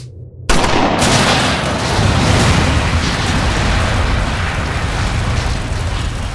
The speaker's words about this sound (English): The second round struck the helicopter's gas tank. Black smoke roiled up to mix with the thick, ominous clouds that swirled in the sky. Garen and his newfound friends were sprawled out on the dune, thrown by the force of the blast.